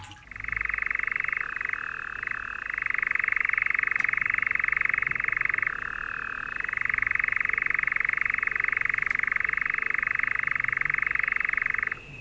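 A nightjar churs without pause for about twelve seconds on a summer night, a steady, loud, mechanical trill that wavers slightly in pitch, heard alone against a quiet night background.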